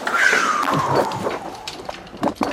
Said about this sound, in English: I heard explosions outside my hotel, clearly missile strikes.